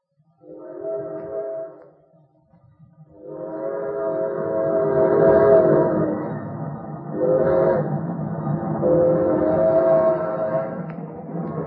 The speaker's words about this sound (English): We don't get to see a train very often. Sure looks good. Yep, just gliding along.